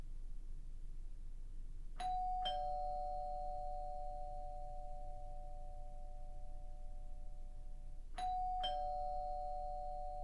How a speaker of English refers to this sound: As the doorbell rang and rang, I huddled in the bathroom, shivering.